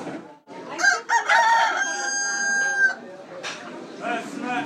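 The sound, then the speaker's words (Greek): A rooster crows loudly with a long, strained call, while other chickens cluck and squawk around it amid the bustle of a busy market in Fez, where buyers choose a live chicken that is then prepared for them. “Εδώ επιλέγεις ποια κότα θέλεις, λες αυτήν, την παίρνουν μέσα και στην παραδίδουν έτοιμη.”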